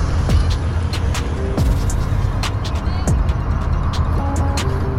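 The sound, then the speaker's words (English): A getaway car's engine starts outside a bank after a robbery and settles into a steady, loud rumble, with scattered sharp clicks and knocks over the low drone throughout. “Dale hands the bag to Betty and starts the car.”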